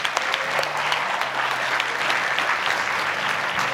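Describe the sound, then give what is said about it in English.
A crowd applauds steadily for people who have just been baptized, a dense wash of many hands clapping at an even, sustained loudness for several seconds, with a few faint voices mixed underneath. “Hey, let's give it up one more time for the people that got baptized.”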